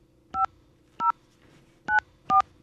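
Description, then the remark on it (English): Four telephone DTMF dialing tones, dialed while placing a phone call, beep in an irregular rhythm, each a short, loud, steady dual-pitched tone, separated by quiet gaps with a faint background hum and no talking. “As you hear, all the tones are going across.”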